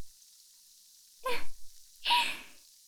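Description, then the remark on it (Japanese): Two short bursts of bright, hissing fizz, like a carbonated drink crackling and sparkling, the second burst longer and louder, with quiet stillness before and between them. No one speaks. “シュワシュワ、パチパチって音、爽快じゃないですか？”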